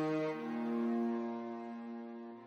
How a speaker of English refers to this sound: So, first of all, I wanted to apologize for the chainsaw in the background. It's my neighbor. I didn't know he was going to do that. So, again, sorry.